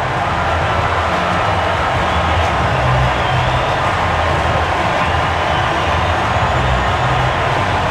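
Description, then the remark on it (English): A huge stadium crowd roars after Javier Baez hits a three-run home run off Lugo into the right-field bleachers, his 100th career homer; a dense, steady wall of cheering that holds at full volume for the whole stretch with no voices standing out. “Three-run homer, Javier Baez. Listen to this crowd.”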